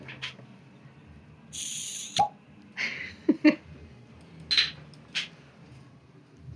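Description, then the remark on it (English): Sake, pasteurized once and released in the fall, pours into a glass in a series of irregular glugs and gurgles, with soft splashy hisses between hollow, bubbly pops. No one speaks. “Hopefully, listeners, you heard the delicious sound of pouring sake.”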